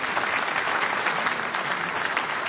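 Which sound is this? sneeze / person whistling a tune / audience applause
audience applause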